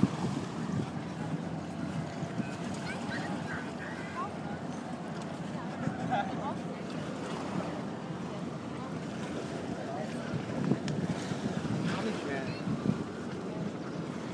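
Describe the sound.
Wash from large ships passing on the Elbe in Hamburg slapping steadily against a sandy beach on a sunny day, mixed with a constant light wind buffeting the microphone and faint, indistinct voices in the background.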